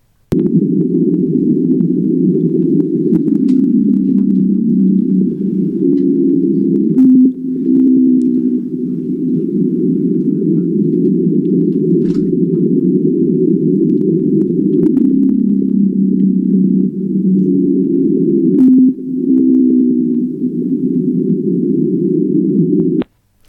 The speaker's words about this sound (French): Ça, c'était une baleine bleue du sud du Pacifique, et l'enregistrement a été accéléré 10 fois pour qu'on entende quelque chose, parce que les baleines chantent entre 12 et 25 Hz, alors que les humains n'entendent qu'à partir de 20 Hz.